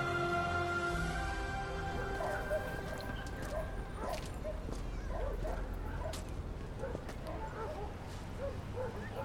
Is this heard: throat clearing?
no